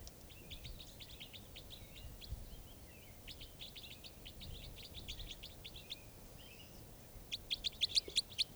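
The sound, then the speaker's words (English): Several wild birds call in quick, overlapping high chirps and short notes around a net where two birds have been caught, with a brighter, sharper burst of rapid chirping near the end over a low rumbling background. “So I caught two birds here in the net, and the other birds, these are the other birds calling.”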